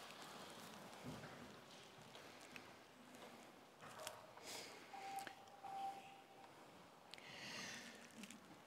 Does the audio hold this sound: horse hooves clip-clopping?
no